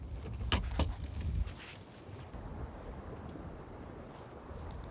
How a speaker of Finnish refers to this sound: Yli 6 solmua. Tässä tulee tällaisia puuskia tässä. Tai kääntyy tuuli silleen, että puskee ihan kunnolla. Tai mitä, en mä tiedä miksi sitä kutsutaan, mutta siis tuuli, tällainen tunneliefekti tulee tähän.